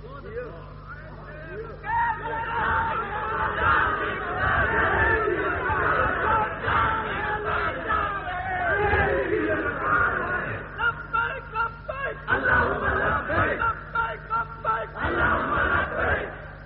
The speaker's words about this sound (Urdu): نعرے نورے نہیں لگاؤ